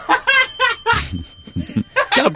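A small bell rings brightly several times in quick succession, its clear metallic tone lingering while low voices and movement murmur underneath.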